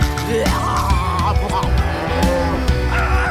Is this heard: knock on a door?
no